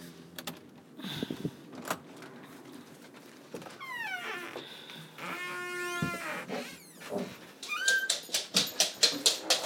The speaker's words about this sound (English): Where's Toof Toof? Hey, I heard him barking. Where is he?